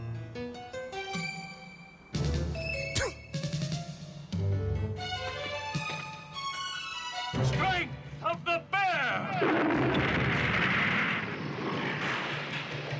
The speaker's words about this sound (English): The horse kicks him away, then shoots him with the blunderbuss, sending Bravestar crashing through a stone statue and into the wall where he's covered by the falling rubble.